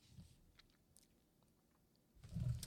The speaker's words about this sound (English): So, okay, let me take a sip.